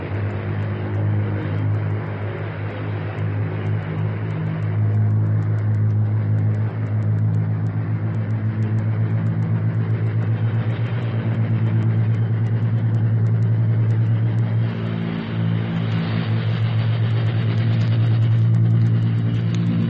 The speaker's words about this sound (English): our microphone is open, ready to record the sound of your 10 engines as you pull up to it, pass it, and get off the ground to start a practice mission of thousands of miles. A mission that will keep you in the air for 36 hours.